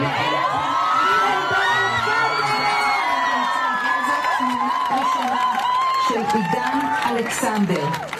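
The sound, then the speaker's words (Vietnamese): A large outdoor crowd in Hostages Square in Tel Aviv, Israel, cheers and whoops continuously, many voices rising and overlapping in excited shouts, loud, with a few high yells cutting through near the end. “Cảm giác hồi hộp chờ đợi anh được thả ra có thể cảm nhận thấy trong đám đông ở quảng trường con tin của Tel Aviv, Tel Aviv's Hostages Square.”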